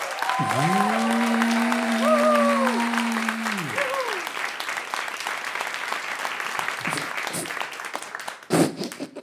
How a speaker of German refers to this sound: Jetzt euer Applaus. Jetzt euer Applaus.